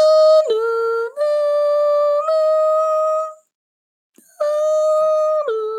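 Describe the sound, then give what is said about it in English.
A voice hums a harmonica-like melody in long, sustained reedy notes that step down and back up, pausing about a second before resuming the tune. No words, just the held tones. “Like it starts off with the harmonica going.”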